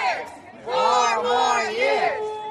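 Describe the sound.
A crowd of cheering Trump supporters outside an early voting site in Fairfax County, Virginia, waving flags and campaign signs, chant together loudly outdoors, the pitch swelling and falling in unison across repeated phrases with a murmur of crowd noise underneath.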